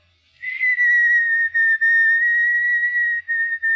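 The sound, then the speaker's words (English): A person whistles a slow waltz tune, long sustained notes gliding gently in pitch with a few brief breaths between phrases, clear and alone with no talking. “Whistle. Whistle what? I don't know, anything. Our song”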